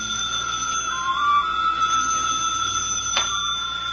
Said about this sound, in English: Somewhere in the living room, the phone rings.